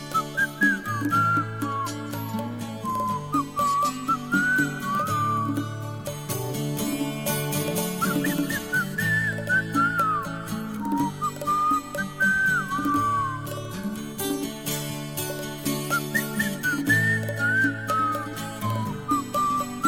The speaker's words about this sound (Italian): Lo so che non so fischiare e non ho neanche cercato mai di imparare. Fin da bambino io non ho saputo mai fischiare